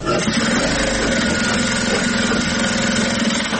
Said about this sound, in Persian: ماشین های خیاطی برقی در یک سالون کلان بر میزهای مخصوص گذاشته شده و دختران توسط آن لباس می دیزند. برخی از دختران با ماشین های خیاطی کار می کنند